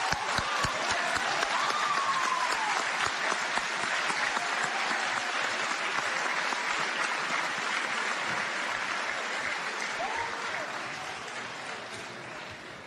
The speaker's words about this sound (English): We're going to give you all a round of applause. There we go.